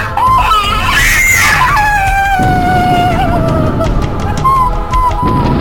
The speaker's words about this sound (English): screams as she begins to fade.